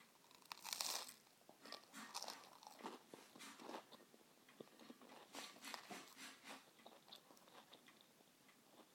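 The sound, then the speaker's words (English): Crisp crunching as someone chews food, a run of irregular bites and grinding mouth sounds with no talking, fairly loud. “Excuse me, crunching, everyone.”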